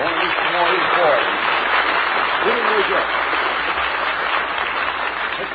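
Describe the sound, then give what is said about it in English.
A crowd at the broadcast's home base cheers and claps steadily, a dense, loud wash of applause with voices shouting and whooping throughout, holding an even level for several seconds. “Here's a cheer from the home base.”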